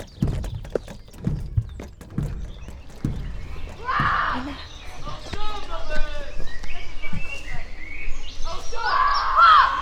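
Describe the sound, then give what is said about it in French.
A bird chirps in short, bright bursts through the second half. Before that comes a series of hollow knocks like hooves clip-clopping, with a busy background running underneath. “Là, t'es bien vers l'oiseau.”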